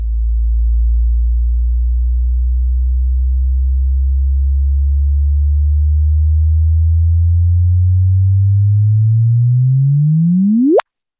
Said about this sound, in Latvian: Tā kā ir arī tāds variants, ka tādas svārstības var pārcelt uz akustisko formātu un arī noklausīties, jā, kā tāda perfekta pīkstiena.